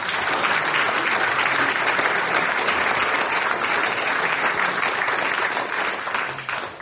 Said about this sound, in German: Da sind die Lounging am Unterleit, lässige Partie aus Thannhausen. Euer Applaus, Dankeschön.